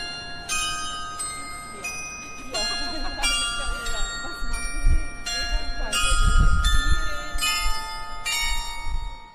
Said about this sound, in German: Von dem Dome, schwer und bang, tönt die Glocke Grabgesang. Ernst begleiten ihre Trauerschläge, einen Wander auf dem letzten Wege.